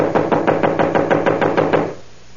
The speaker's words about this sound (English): I'm wearing out my knuckles on this door. Well, try the bell. I did. Not working as usual in these places. Well, knock again.